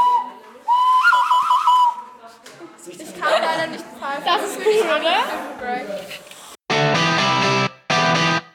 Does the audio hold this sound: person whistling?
yes